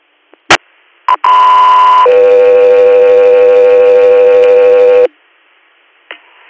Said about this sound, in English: standby for tones.